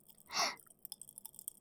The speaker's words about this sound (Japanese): パチパチするやつもあるよ。私はパチパチのにする。ラムネ味。